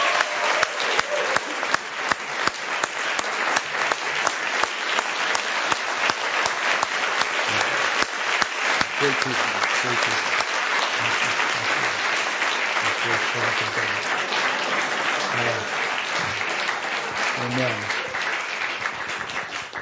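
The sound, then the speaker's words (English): A church audience claps steadily and loudly for about twenty seconds in the evening for their pastor and his wife and family, a dense wash of many hands with a few voices murmuring and calling out underneath as the applause slowly tapers. “I think it would be good for us tonight to give them a wonderful round of applause for being a great servant of the Lord.”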